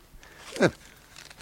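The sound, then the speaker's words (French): A single short crinkle of a paper letter found in a man's pocket being handled, a quick crisp rustle that rises and fades in a moment, against a quiet, faintly noisy background. “Qu'est-ce que c'est que ça, ce papier dans sa poche?”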